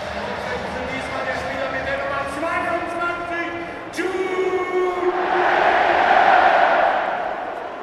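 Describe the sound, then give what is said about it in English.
A football stadium crowd, at a match against Gladbach, chants "Jude" for Jude Bellingham as one long, drawn-out, low bellow lasting several seconds, then breaks into a louder, hissing roar of cheering that gradually fades. “That was a big Jude. That wasn't booing before you ask.”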